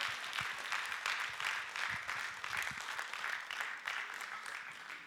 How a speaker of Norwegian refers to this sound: Gi din applaus, dere.